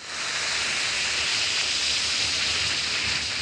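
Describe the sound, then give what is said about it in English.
Steady fizzing hiss of Alka-Seltzer tablets dissolving in water, a dense crackle of tiny bubbles that holds evenly for a few seconds with no voices. “Why, that's Alka-Seltzer, and it's a darn good idea.”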